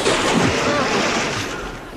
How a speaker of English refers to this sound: I got the maker's guarantee on this record. Oh, listen. This water is genuine, and any copy of it will be confiscated. Remember, only genuine water makes this sound.